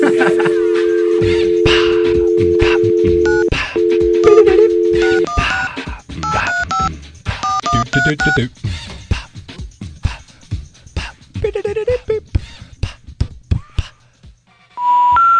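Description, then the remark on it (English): A steady dial tone hums for several seconds, then a quick run of short, clear keypad beeps as a number is punched in, with clicks and some muffled background noise around them. “No, we're on the phone now.”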